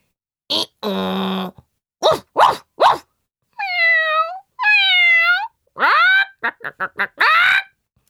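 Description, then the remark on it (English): A loud, chaotic run of animal calls: sharp dog barks, whining cat meows and drawn-out chicken squawks, overlapping in quick bursts, with no talking. “The cat stood on the dog. And the chicken stood on the cat. Then they made a lot of noise.”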